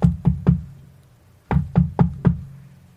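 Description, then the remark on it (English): Knocking on the wooden door of an old cottage: three firm raps, a brief pause, then four more, resonant with a hollow low thud and no voices. “She made her way there and knocked on the door.”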